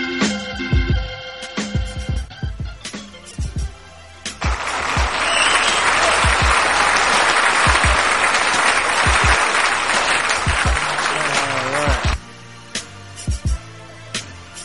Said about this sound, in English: That applause ended abruptly. That was weird.